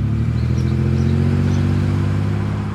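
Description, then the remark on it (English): A truck engine rumbles steadily as it pulls up to a house at about 7 a.m. in Bremerton, Washington, on a foggy morning after Christmas 1997; a low throaty idle with faint mechanical clatter, holding at a constant loud level with no voices. “He pulled up to the man's house on Jensen Avenue at about 7 a.m. As he got out of his truck,”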